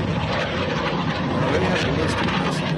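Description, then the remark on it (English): Missiles swish overhead in Iran on a Saturday night in a loud, continuous rushing roar, the passes blending into one another rather than standing apart as separate whooshes. “Every one of those swishes is a missile.”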